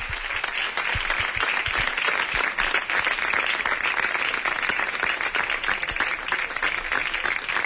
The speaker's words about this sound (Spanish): Ha concluido con esta ovación.